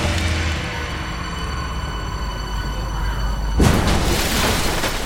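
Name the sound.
bus crashing into water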